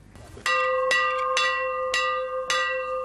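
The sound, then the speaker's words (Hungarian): A bell rings loudly in Sopron, Hungary, commemorating the border opening of 19 August 1989, with five evenly spaced strikes about half a second apart, each clang blending into a sustained, shimmering metallic tone. No voices are heard. “A harangszóval az 1989. augusztus 19-én Sopron pusztán történt határnyitásra emlékeztek, itt kezdődött Európa újraegyesítése.”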